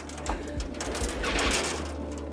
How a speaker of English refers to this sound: It'll be some sight to see these pigeons getting out now. They're waiting, like, you know.